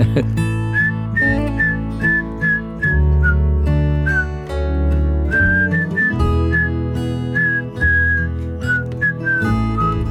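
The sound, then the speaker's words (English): Someone whistles a lilting melody in clear, sustained phrases over a steady instrumental backing, the tune rising and falling throughout without any talking. “Hey, why don't you whistle a little bit?”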